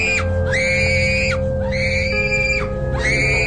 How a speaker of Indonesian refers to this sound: Tubuh dia sudah meronta-ronta dan berteriak.